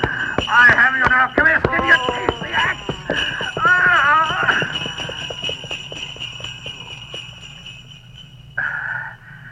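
Trotting horse hooves pull a sledge with bells as the horse runs off with it, a quick clattering rhythm mixed with ringing, whinny-like tones, loud at first and then thinning out as the sound fades away.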